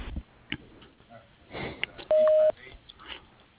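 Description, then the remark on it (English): A single steady electronic beep, loud and mid-pitched, sounds for about half a second after some faint rustling and low noise: the voicemail tone at the end of a phone voicemail greeting, signaling recording has begun. “Please leave a message after the beep, and I will return your call as soon as possible.”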